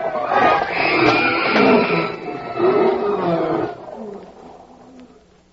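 Several big cats in wild animal cages roar and snarl loudly as stampeding steers head for the cages, overlapping in a chaotic burst for a few seconds before fading into a lower, rumbling growl.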